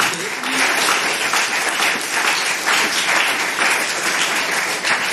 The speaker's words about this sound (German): Ja, vielen Dank, finde ich total gut. Es hat einen Applaus verdient, weil man